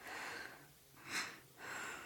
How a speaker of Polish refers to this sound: Teraz muszę cię osłuchać. Podnieś koszulkę i głośno oddychaj.